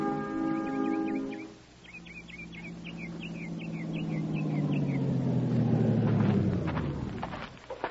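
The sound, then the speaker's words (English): Griffin's truck engine rumbles low and steady, swelling louder as it draws near and then beginning to fade as it turns down a dirt road leading to Floyd Mason's farm, while birds chirp faintly in the background. “Truck turned down that dirt road, Captain.”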